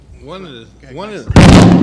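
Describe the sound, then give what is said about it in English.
A voice makes two rising-and-falling vocal sounds, then a sudden loud crack of thunder from a thunderstorm outside breaks in and roars on, a harsh, broad rumble that fills the last half second. “It's a thunderstorm out there.”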